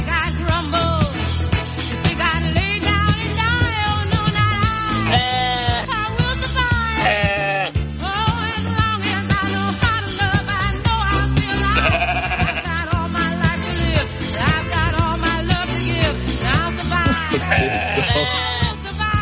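A flock of sheep bleats loudly and almost without pause, many wavering, overlapping cries piling on top of each other for the whole stretch, with no talking.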